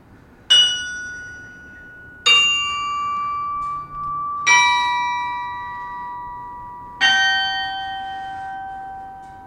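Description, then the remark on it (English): Massive tower bells of a bell instrument strike four times in a slow descending sequence, each loud toll ringing on and overlapping the next as it fades. No one speaks. “There is another way that other people can see the bells themselves and the instrument, yes?”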